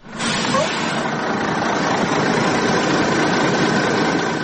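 A large bus carrying about 80 migrants stops about 4 km from the Horgoš border crossing, its engine idling with a steady, unbroken rumble and broad mechanical hiss, holding an even, fairly loud level from start to finish with no change in pace.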